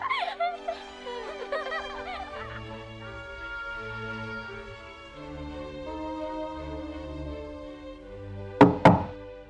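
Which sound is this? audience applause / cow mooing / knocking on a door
knocking on a door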